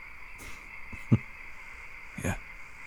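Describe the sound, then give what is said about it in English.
A few short, separate frog croaks sound at uneven intervals over a steady, high insect-like drone of night ambience, with no talking. “Who chases someone around with a frog?”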